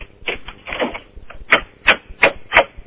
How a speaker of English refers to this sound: Have you knocked on the door? Yes. Yes, I have. This could be scary. I'm not kidding you this time. Could we hear you knock on the door? Hold on. I'll do it again.